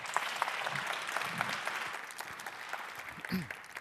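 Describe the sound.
Steady audience applause, a dense wash of many hands clapping at an even, moderate loudness for a few seconds, with a few murmured voices faintly underneath.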